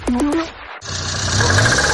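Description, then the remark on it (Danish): A faulty car engine sputters with three quick choppy, whining bursts, cuts out briefly, then runs on with a rough, steady rumble and rattle, fairly loud, with no voices. “Nej, sådan skal bilen da vist ikke lyde.”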